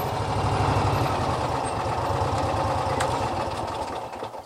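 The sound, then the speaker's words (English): A small ATV engine runs steadily with a rapid, throbbing low-pitched putter, loud and continuous throughout, easing slightly toward the end, as the ATV drives across a bison pasture at high noon on a hot day. No one speaks. “A couple of young bulls run behind the ATV as it makes its way across the property.”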